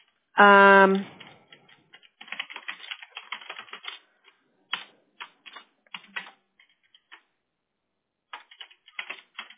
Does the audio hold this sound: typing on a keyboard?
yes